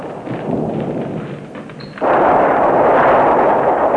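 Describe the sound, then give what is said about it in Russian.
A deep rumble of thunder from a thunderstorm with rain rolls low and steady, then about halfway through a sudden loud clap breaks into a sustained, dense roar that stays strong to the end. No voices. “Во, не как гроза, да и дождик.”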